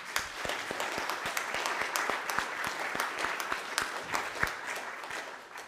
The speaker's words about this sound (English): And I'd just like to have you folks give him a round of applause.